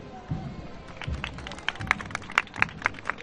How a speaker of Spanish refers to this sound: Debe ir con el palio de la Virgen de la Luz por la música que ustedes escuchan y los aplausos.